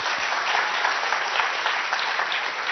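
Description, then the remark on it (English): A crowd claps steadily to thank the performers of a dance, a skit and a group act, a dense wash of many hands at an even, fairly loud level with no voices rising above it for the whole stretch. “Round of applause.”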